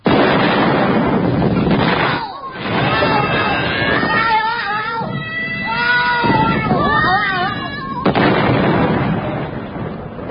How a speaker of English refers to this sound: The giant capsule was today exploded and went bang. London transport experts have, however, discovered what the thing was.